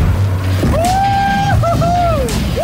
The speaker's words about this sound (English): I cannot believe that this Airbnb has got jet skis. Dude, turn the jet ski off. That thing's worth more than your house.